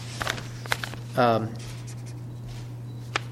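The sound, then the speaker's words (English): A pen scratches across paper in a few quick, faint strokes as someone signs their name, over a steady low hum with a brief voiced sound in the middle. “So I'm going to sign as we do.”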